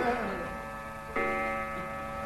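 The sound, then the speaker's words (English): A clock strikes twelve o'clock with resonant, bell-like chimes, one ringing tone followed by a second strike about a second later, each sustaining and slowly fading at a steady level. “12 o'clock. Stand by, Cinderella for the transformation scene.”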